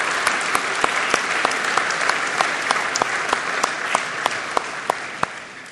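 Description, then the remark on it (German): A church audience applauds the workers steadily, a dense wash of clapping with sharper individual claps standing out, holding at a fairly loud level for several seconds with no voices. “Lasst uns auch hier diesen Mitarbeitern einen Applaus geben.”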